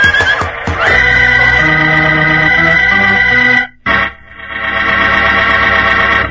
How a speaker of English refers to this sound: This horse seems on edge tonight.